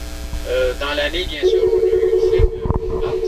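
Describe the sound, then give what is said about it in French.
A telephone rings with short electronic tones that give way to a steady sustained tone, with a low hum and faint background noise underneath. “Oui, ça doit être mon téléphone que j'attendais.”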